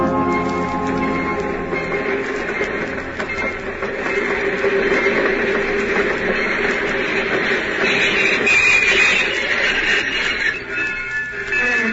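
A train rumbles steadily at a railway station, a continuous, fairly loud mechanical roar with faint clattering and hissing that swells slightly midway, with no voices.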